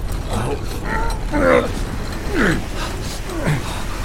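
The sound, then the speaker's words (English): A heavy gate grinds shut with a loud mechanical rumble, punctuated by three or four drawn-out metallic creaks and groans that rise and fall in pitch. “Rowena and Ayas were able to drag Soren beyond the gate before it closed behind them”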